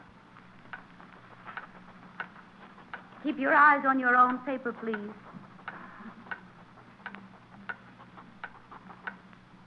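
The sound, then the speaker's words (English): A wall clock ticks steadily in a classroom during a written test, each tick a sharp, evenly spaced click. Partway through, a voice speaks briefly over the ticking, which carries on unchanged. “Now as the 40 pens of 7B put answers on an empty page, and the wall clock ticks, the door swings open,”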